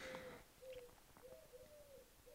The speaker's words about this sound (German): Ich weiß nicht, ob ihr die Taube hört, vielleicht hört ihr sie.